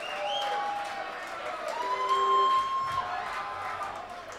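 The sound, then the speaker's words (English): An audience applauding steadily for the drummer, a dense wash of clapping with crowd noise and a few sustained high whistle-like tones riding over it, holding fairly level throughout. “He's one of those guys that just plays for the applause.”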